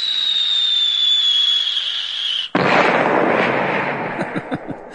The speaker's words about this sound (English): We need like a bombshell effect here. Okay.